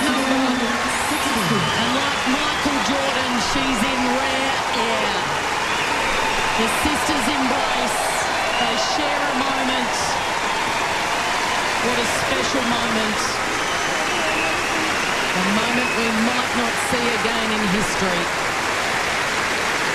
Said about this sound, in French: Oui, parce que là, je dis, bon, c'est quoi le moment très spécial? Pourquoi on applaudit?